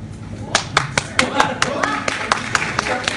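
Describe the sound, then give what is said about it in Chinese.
Scattered, uneven audience clapping: a dozen or so sharp, bright claps at irregular intervals rather than steady applause, over a low murmur of crowd noise. “但掌声不齐呀、 无所谓，无所谓，我不在乎这个，主要我开心嘛。”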